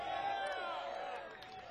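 A concert crowd at a band's show cheers and whoops for the sound engineer in the tent, a dense wash of overlapping shouting voices that holds steady and then eases off slightly near the end, with possible applause mixed underneath.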